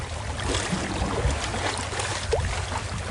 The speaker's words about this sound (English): I'm rowing, you're the navigator. No use navigating in this sea. We are at her mercy and can only hope for the best.